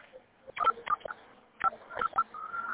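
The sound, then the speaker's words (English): A quick series of touch-tone keypad beeps as a phone number is entered at a voicemail system prompt, short steady tones pressed one after another in two bursts, clear over a faint line hiss, with no talking. “Please enter the phone number of the person you want to leave a message for. Then press the pound key.”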